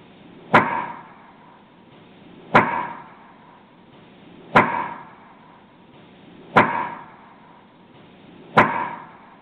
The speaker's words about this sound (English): But having said that, let's play Woodknock, labeled Woodknock Best Response, about 10 seconds here, and of course, looped.